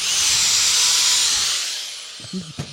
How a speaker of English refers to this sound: Your drill's not even a battery drill? No, it's an electric drill. Have you heard of electricity?